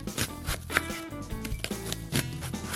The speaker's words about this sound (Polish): Pokrojoną paprykę dorzucamy do miski z marchewką i bierzemy się za krojenie złocistej cebuli.